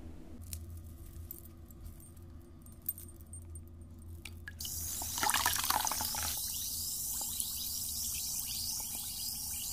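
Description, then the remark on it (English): Something is dropped into bath water midway, followed by a steady fizzing and crackling hiss with faint drips and splashes, with no talking. “Let's drop him in the bath.”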